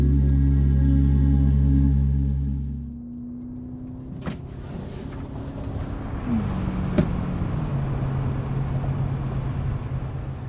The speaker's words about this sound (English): You're in your car on a sunny August afternoon, window rolled down to feel the breeze.